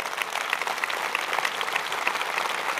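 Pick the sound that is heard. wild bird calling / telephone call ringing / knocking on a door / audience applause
audience applause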